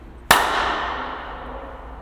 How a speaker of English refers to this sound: A good clap, people. I have a very loud clap, yes.